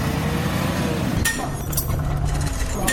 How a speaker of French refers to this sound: Nous sommes dans un garage automobile à Missira. Ici, les moteurs vrombissent, les marteaux résonnent et les outils mécaniques s'entrechoquent.